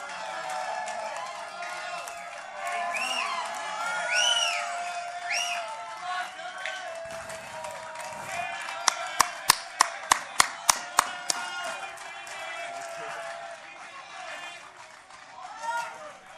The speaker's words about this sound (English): Let's hear it for the …. Give them a round of applause, folks.